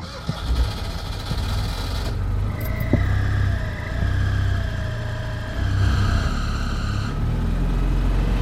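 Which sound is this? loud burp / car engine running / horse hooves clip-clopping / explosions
car engine running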